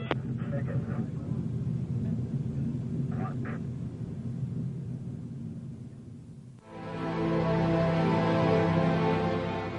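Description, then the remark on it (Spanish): A steady, heavy rocket engine rumble roars continuously 60 seconds after launch as six spent solid motors are jettisoned and three air-start motors ignite, then abruptly shifts into a louder, fuller roar with a droning tonal hum over the low thunder as they ramp up to peak thrust. “Jettisoned all 6 solids and we've ignited the other 3. All 3 air starts are up and running. Ramping up to their peak thrust.”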